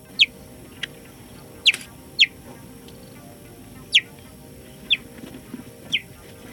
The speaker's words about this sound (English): Is it a bird? Is it a toy car? No, it's a cheetah, an apex predator.